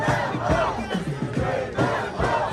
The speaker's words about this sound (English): And so anyway, we're watching this play out. You see the flags up, folks screaming and yelling on one side and then screaming another on another side.